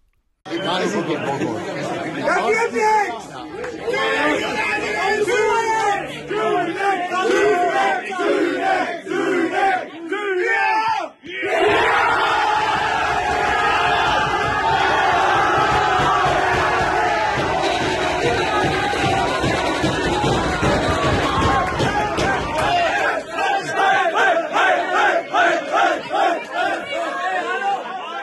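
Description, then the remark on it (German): A crowd in the Münsterland shouts and cheers excitedly as the decisive penalty of a football penalty shootout is saved, then erupts into a loud, sustained roar of jubilation that holds for several seconds before breaking into choppier, rhythmic shouting toward the end. “Der entscheidende Elfmeter wurde pariert und der Jubel war groß.”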